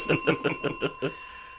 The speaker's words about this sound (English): Ring that bell.